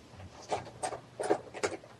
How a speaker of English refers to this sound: Hey, come on, hey, don't start typing at me as well,